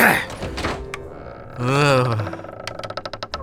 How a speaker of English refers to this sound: Why is this door always jammed up?